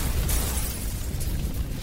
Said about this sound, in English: Three storage areas filled with 75,000 pounds of explosives are accidentally ignited, creating an inferno. Glass shatters up to 10 miles away.